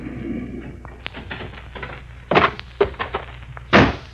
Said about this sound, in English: The door to the shack opens, and Leif Colby, a grimy, bewhiskered old rogue, emerges.